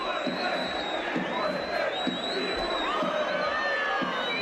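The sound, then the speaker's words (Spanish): Real Sociedad fans in the stands of the Coliseum stadium chant and shout insults at Greenwood, a dense roar of many voices with rhythmic swells and piercing whistles cutting through. “Bueno, en la grada del Coliseum, procedente de la grada donde estaban los aficionados de la Real Sociedad, se escucharon gritos de Greenwood, muérete, Greenwood, violador.”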